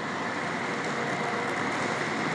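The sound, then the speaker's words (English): A dense, steady wash of ambience at Dublin's main railway station, Ireland's biggest, at 5:18 p.m.: a constant roar of background noise with indistinct activity, evenly loud throughout with no single sound standing out. “Welcome to the sound of Dublin, Dublin, Ireland's biggest railway station. This is what it sounds like at 5:18 p.m.”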